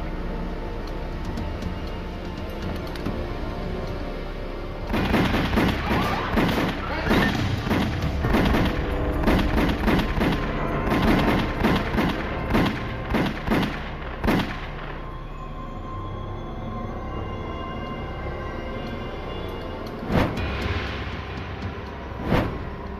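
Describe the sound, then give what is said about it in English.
Assassins shoot Paul Castellano and Tommy Bilotti beside their car at the curb: a rapid, loud volley of sharp gunshots cracks out over a low rumble, dozens of overlapping bangs for several seconds, then trailing off into a couple of isolated shots. “Paul Castellano and Tommy Bilotti lay outside the car, each shot by six bullets.”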